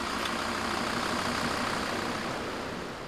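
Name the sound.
old truck engine running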